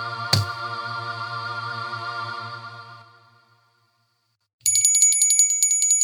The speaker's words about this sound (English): Hey, you know what that bell means, don't you? Sure do. Every time a bell rings, an angel gets its wings. No. No. It means we're out of time.